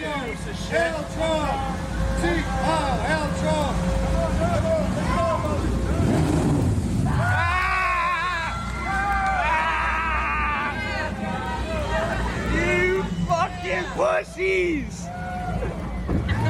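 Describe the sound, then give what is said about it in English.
Motorboat engines rumble steadily on the water as boats pass in a boat parade of Trump supporters, while a crowd shouts and cheers over them, with loud, overlapping voices and wind buffeting the microphone throughout. “Look at what actually happened to this boat by the Trump supporters in the boat parade.”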